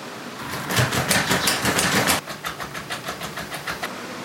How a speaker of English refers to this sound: I'm at the front door, so let me know when you guys are ready. I'll try the knob for 15 seconds then.